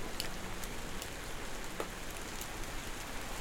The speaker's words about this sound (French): Une légère ondée de pluie.